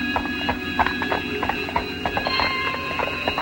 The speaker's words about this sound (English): Inside the gates, they lead their horses through a deserted alley.